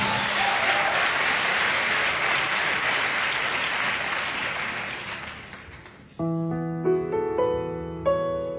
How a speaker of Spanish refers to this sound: Aplausos, sí.